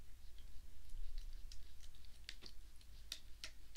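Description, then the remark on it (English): Soft, irregular drips and patters of water as a wet cloth is squeezed out into water with a numbing agent, used to clean a wound, with short gaps between the faint ticks and no voices. “Squeeze out the excess.”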